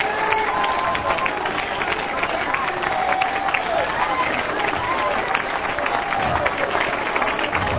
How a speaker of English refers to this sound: Come on, give them a hand clap of praise.